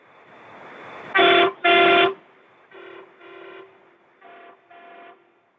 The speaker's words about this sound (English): Even the most hardened truck driver gets a smile on his face when a kid asks for that horn to be honked. I'm doing the horn motion right now.